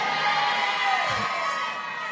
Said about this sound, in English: I knew that would be the loudest amen.